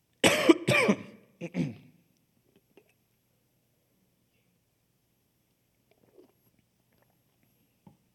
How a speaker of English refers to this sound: I'm just going to take a sip of water first. Excuse me.